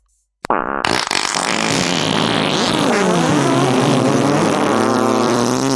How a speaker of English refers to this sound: Multiple farts all at once. It was escalating and it sounded a little like the THX. You know, test.